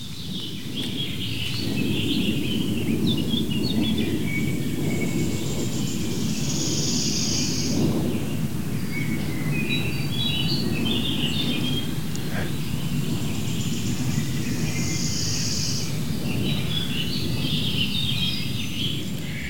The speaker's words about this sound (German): Ja, ist doch immer wieder schön, wenn so ein Flugzeug oben rüber fliegt, dann wissen wir gleich, Donnervogel, den können wir alle bestimmen. Eine große Maschine.